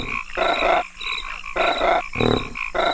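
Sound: frog croaking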